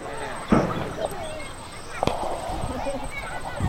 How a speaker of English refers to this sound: I think we're hearing some gunshots. Sure. Yeah. It's still really close. What's going on here? I heard the sound from this side.